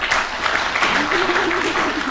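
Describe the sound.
A studio audience applauds to vote on awarding a point to Sheila Hancock: dense, steady clapping that stays loud and even throughout, a faint voice briefly audible underneath.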